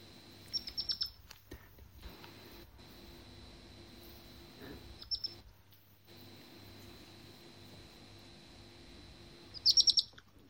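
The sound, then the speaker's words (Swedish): A young animal gives three short bursts of high, rapid chirping, birdsong-like and quite close, with quiet pauses between them over a faint steady background hum. “Det är nästan som fågelkvitter.”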